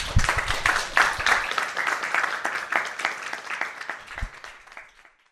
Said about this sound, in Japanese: はい、ありがとうございました。皆さん拍手で。